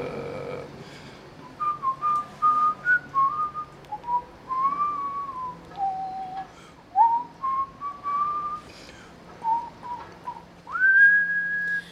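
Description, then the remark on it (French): Someone whistles a slow melody, a string of clear sustained notes rising and falling, ending on a long high note, over a faint street-like background hum, recorded in the streets of Rennes in March 2019. “Du coup, j'ai pas d'idée, je vais siffler.”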